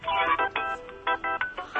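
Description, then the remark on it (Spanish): A mobile phone ringtone plays in short, repeated melodic bursts with brief gaps between them as the phone is being called, moderately loud, with no one speaking over it. “Mira cómo mezclamos el sonido del móvil y ahora con el otro, con el origen.”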